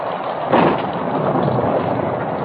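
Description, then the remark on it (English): Steady, heavy rain hisses throughout, with a low rumble of thunder swelling briefly near the start of a stormy downpour. No voices are heard. “He stepped out into the pelting rain.”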